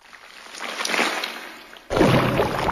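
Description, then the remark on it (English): Wet, gurgling bubbling that swells and fades, then abruptly gives way to a louder, deeper churning slosh for the last second, like thick liquid bubbling and popping: a horrid green slime bubbling and popping as it tries to strike, in an audio adventure game. No voices. “It bubbles and pops as it tries to strike at you.”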